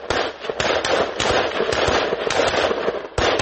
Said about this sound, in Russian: Бойцы стреляют из автоматов, потом перебежка, снова открывают огонь и занимают позиции. Это тренировка штурмовых действий.